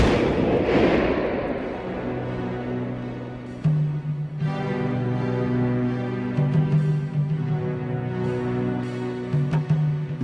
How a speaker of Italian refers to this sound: Aprono il baule e dentro trovano un pacco, stretto con il nastro adesivo, collegato all'auto da alcuni fili. I vigili del fuoco si allontanano e stanno facendo sgomberare la strada quando all'improvviso l'auto esplode.